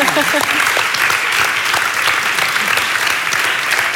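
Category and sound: crowd, applause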